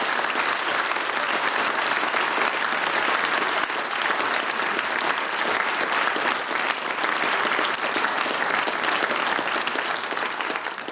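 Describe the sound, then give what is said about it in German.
Sustained audience applause for a performer after his two pieces, a dense steady wash of many hands clapping at an even, loud level for about eleven seconds, with no speech over it. “Dir gebührt nochmal ein ganz besonderer Applaus und wir wünschen dir, dass du es ins große Finale schaffst, ins Fernsehen.”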